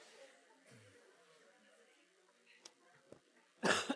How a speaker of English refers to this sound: Cough moment.